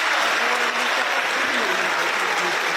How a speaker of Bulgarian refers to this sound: Благодаря ви за аплодисментите и подкрепата.